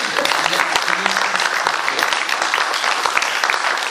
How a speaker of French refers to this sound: On l'applaudit? Bien.